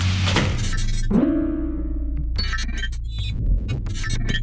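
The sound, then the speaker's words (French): During a tour of a facility, a heavy double door swings shut with a loud metallic clank and a ringing resonance that fades over about a second, surrounded by scraping, rattling handling noises. “On referme la double porte.”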